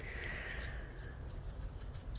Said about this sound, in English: I'm sitting here listening to blackbirds instead of crows,